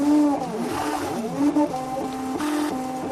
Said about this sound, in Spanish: Este sonido es el de una impresora 3D. Un progreso que se une cada vez más con el creciente mundo de la medicina y la nutrición. Así la impresora crea un alimento lo suficientemente sólido, manteniendo el sabor de la comida que se quiere recrear.